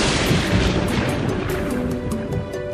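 A heavy, continuous roll of thunder rumbles loudly as the weather changes, with a deep booming low end that holds steady for about three seconds, no voices present.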